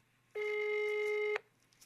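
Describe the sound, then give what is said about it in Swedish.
A single steady telephone ringback tone heard while calling, a clear electronic beep lasting about a second, fairly loud and alone against a quiet background. “Du får ta fram ett nummer och ringa dig själv.”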